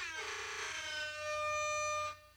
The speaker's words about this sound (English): Okay, let me hear the air horn right quick. Test it.